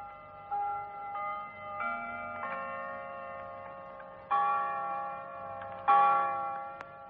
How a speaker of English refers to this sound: Charlie, the clock struck two.